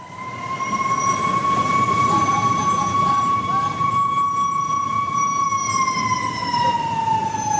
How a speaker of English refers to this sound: It's rush hour in Uganda's capital. Ambulances and street sellers battle the heavy rain and traffic. The ambulance is pushing its way towards Mulago Hospital.